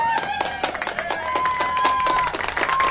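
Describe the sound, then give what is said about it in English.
A canned crowd cheering sound effect on Scuba Radio: steady, loud clapping mixed with sharp whistles and crowd noise, running continuously for the whole clip with no one speaking over it. “Well, at least the canned crowd does.”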